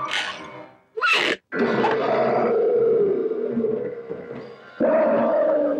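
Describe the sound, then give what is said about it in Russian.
A lion roars and growls as it slowly and menacingly comes out of a crate: a short rasping burst, a brief gap, then a long, loud rumbling roar that swells again toward the end, with no talking. “Из ящика медленно и грозно выходит лев.”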